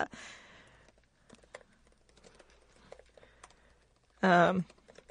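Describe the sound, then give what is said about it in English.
Quiet, irregular clicking of someone typing on a computer keyboard while searching something up on Google, scattered taps over a few seconds, opening with a breathy exhale and ending with a short burst of voice. “Hey guys, you know, you're typing a lot.”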